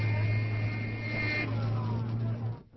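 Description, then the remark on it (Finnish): Steady engine rumble of a traffic jam at a street corner, with a sustained, high car horn blaring for about the first second and a half before the traffic noise continues alone and then cuts off. “Täällä ei ole hiljaista liikennettä, vaan auton torvet on luotu sitä varten, että niitä käytetään.”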